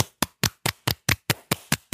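A steady run of about ten sharp hand claps at a quick, even pace, fairly loud, with no voices.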